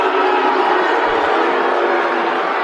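A loud, sustained crowd roar of disapproval from basketball fans at a high school game between Riverdale and Memphis Central, reacting to a jump ball call, a dense, steady wash of voices that holds at full volume throughout with no single voice standing out.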